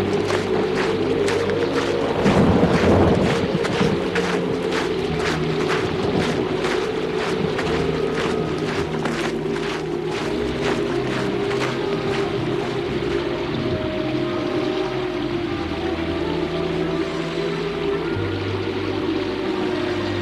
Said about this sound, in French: Que il pleut sans arrêt. L'eau monte et inonde les maisons. Elle va jusqu'au toit des maisons.